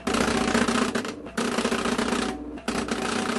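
A Braille embosser, run with Braille software, hammers out Braille text to accompany a tactile drawing for National Braille Press textbooks near Albany, New York, in a loud, rapid mechanical chatter, broken by two brief pauses as it advances the paper before resuming.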